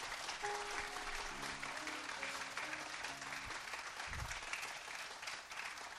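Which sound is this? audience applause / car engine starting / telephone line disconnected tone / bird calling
audience applause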